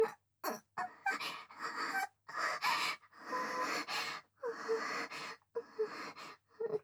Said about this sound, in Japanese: 君の吐息が首筋とか耳に当たってくすぐったいだけだよ。